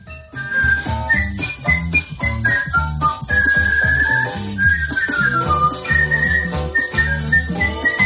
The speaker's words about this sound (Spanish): Bueno, es que de verdad es que es sorprendente lo bien que silba. Bueno, por algo ha sido elegida campeona del mundo.